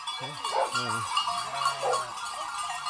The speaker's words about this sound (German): Oberhalb von Partenkirchen treiben die Männer der Weidegenossenschaft rund 450 Bergschafe auf die sogenannte Vorweide an den südlichen Ausläufern des Wank, dem Partenkirchner Hausberg.